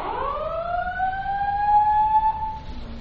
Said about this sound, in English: That's not us. It's a fire alarm. We should get out, yeah.